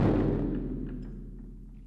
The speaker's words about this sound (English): Weber shows me another piece by Ted Reiterer called Of Guns and Drums. Weber beats the drum for me, which produces a sound reminiscent of a gunshot.